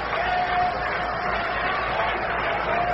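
Baseball fans at a game clapping during an at-bat with the count at one ball and two strikes, a steady, dense wash of crowd noise that holds at an even loudness for the full three seconds, with no single voice standing out.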